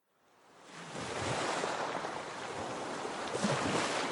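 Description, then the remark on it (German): Water of a fjord near Brevik in southern Norway washes and laps steadily, fading in over the first second into a broad, continuous rush of small waves with a faint breeze, without any voices. “Ein Fjord in Südnorwegen.”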